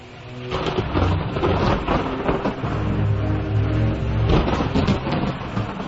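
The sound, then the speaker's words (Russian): Deep, rolling thunder from a thunderstorm over a forest rumbles steadily over a constant hiss of heavy rain, building in a couple of louder swells. The storm sounds loud, with no voices present. “Но однажды гроза грянула над лесом, зашептали деревья глухо, грозно,”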